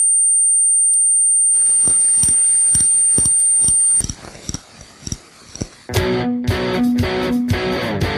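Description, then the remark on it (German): A thin, steady high-pitched whistle like tinnitus rings alone, then continues over regular thumping pulses before cutting off abruptly midway; a dense, loud burst of music-like sound follows. “Termi Tinnitus, das pfeift.”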